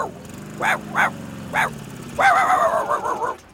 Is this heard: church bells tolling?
no